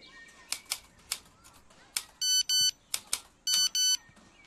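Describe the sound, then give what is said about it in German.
Sharp typewriter key strikes are interrupted twice by a mobile phone text message alert, each time two short, bright electronic beeps, loud and clear, with no voices present. “Tante Putzi schon wieder. Alte Leute und Handy, das ist eine ganz schlechte Idee.”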